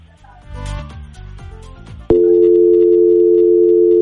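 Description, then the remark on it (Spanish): After about two seconds of rustling and handling noise, a phone keypad tone for the number 5, pressed on the phone's touchscreen, sounds abruptly and holds as a loud, steady electronic beep until the end. “No, mi amor, tóquelo en su teléfono, en la pantalla de su teléfono, ahí donde están los dígitos del teclado, así como cuando usted va a llamar.”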